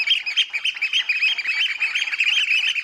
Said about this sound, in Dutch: Petit, petit! Zo soort iets. En daarmee proberen ze dan de anderen zeg maar, weg te jagen. De concurrenten die ook proberen hier een nest te gaan maken. Ja, en we kunnen het wel eventjes laten horen hoe dat dan klinkt. Zo'n schoolekster.